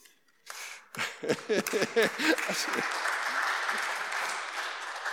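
An audience at a church service applauds during a sermon after a brief pause, the clapping swelling quickly into a steady, dense patter. A few voices murmur and laugh faintly at the start.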